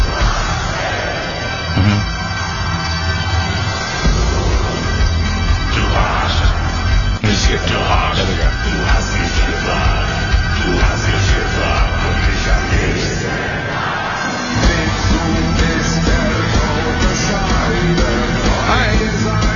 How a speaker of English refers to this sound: It's just typical head-banging, loud music.